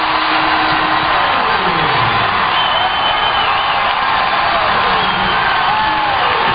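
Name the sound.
stadium crowd cheering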